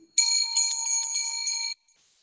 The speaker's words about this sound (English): forgiveness in the twinkling of the bell, tinkling of the bell.